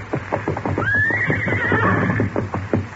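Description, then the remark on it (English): A horse named Silver whinnies in one long, wavering high-pitched neigh that rises then falls, over a steady background of repeated hoofbeat-like thumps and low hum. “Steady, big fellow, while I settle you up.”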